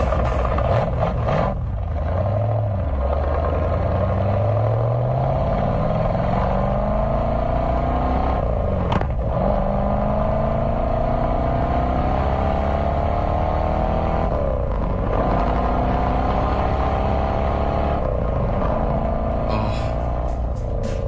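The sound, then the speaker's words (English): A loud, deep, big V8 car engine with a 4-speed gearbox revs hard, its rumbling pitch climbing steadily, dropping sharply at each gear change around three times, then rising again. No one speaks. “So, 4-speed, big, giant V8 in this thing. Listen.”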